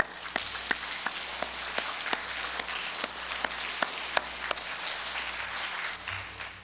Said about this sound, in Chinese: 所以在我们教会呢，我就鼓励弟兄姊妹把双手举起来，向着天向着神我们鼓掌，我们把一切荣耀归给主，我们也谢谢他们。